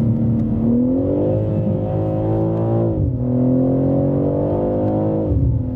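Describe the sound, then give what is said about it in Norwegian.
A car on winter tyres accelerates, its loud engine hum climbing steadily in pitch, then dropping abruptly twice as the automatic gearbox shifts up too quickly, before rising again. No voices. “Den girer jo alt for kjapt oppover. For kjapt.”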